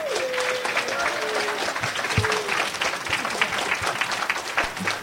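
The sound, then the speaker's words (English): A crowd claps steadily for about five seconds for a discussion panel as an event wraps up, dense and continuous applause with a faint whistle or cheer rising briefly near the start. “A big round of applause first for our panel.”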